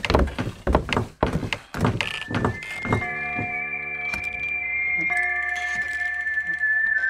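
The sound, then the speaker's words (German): A few heavy wooden thumps and clatters, then a pub's swinging door lets out a long, drawn-out squeak that wavers in pitch and keeps sounding fairly loud as a group of men enters. “Plötzlich hörte man die Schwingtür der Kneipe quietschen.”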